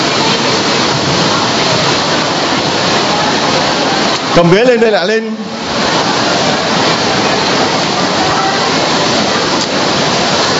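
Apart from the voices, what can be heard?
heavy rain pouring down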